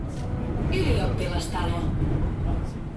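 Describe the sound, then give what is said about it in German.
A Helsinki city tram on line 9 rumbles as it approaches the market square with a steady low drone, brief high metallic squeals rising over it midway, while indistinct voices murmur in the background. “In Helsinki nähert sich die Linie 9 dem Marktplatz.”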